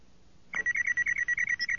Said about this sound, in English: The comlink beeped from Han's shirt pocket.